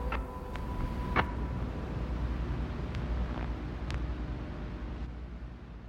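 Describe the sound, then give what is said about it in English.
Steady hiss of radio static fills the whole stretch, with a few sharp crackles and a brief faint tone early on; no voices, just continuous noise at a moderate level. “And then it all fades to static.”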